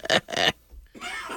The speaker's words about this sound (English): Sorry, I'm coughing. I have allergies.